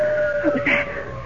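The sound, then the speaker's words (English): A wolf's long, sustained howl in snowy woods holds one steady, mournful pitch throughout, with muffled voice-like sounds briefly rising beneath it partway through. “Howl of a wolf.”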